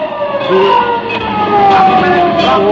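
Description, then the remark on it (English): A fire truck siren wails steadily, its pitch slowly sliding up and down over a rumbling engine and traffic noise. “Where you going, to a fire?”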